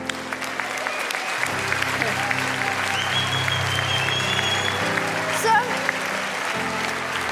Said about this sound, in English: Now, let's give them a round of applause. This is awesome.